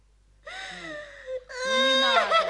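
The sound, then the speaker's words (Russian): A child wails and cries in two long, drawn-out bursts, the second louder and more strained, with no other talking. “Ну, не надо. Ну, не плачь, малыш.”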